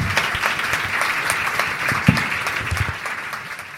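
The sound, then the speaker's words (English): A crowd of people claps steadily for several seconds, a dense patter of overlapping hand claps at moderate volume with no one speaking over it. “I will also ask you to join me in a round of applause for AB and Bob”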